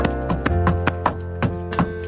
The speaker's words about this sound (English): Music can be made by stomping your feet.